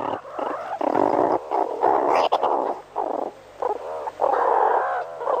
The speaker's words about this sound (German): Und so klingt eine Unterrichtsstunde bei den Erdmännchen.